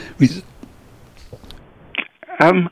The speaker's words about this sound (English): Resulting in life extension, as I had to cough there, as well as better health.